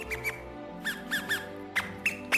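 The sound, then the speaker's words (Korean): A series of short, high-pitched mouse squeaks, about seven chirpy bursts in an uneven rhythm, clear and fairly loud with no talking. “그러더니 갑자기 찍찍거리는 소리가 들려왔다.”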